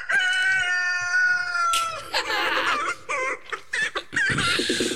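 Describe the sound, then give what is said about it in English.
A rooster lets out a long, loud crow, followed by a flurry of quick, choppy clucks and squawks in uneven bursts, with no talking. “But you know what does have great betting mindset? The fucking chicken.”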